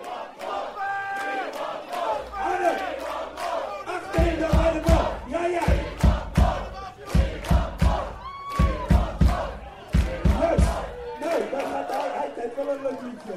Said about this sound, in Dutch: Dus jullie moeten nou even roepen, we want more.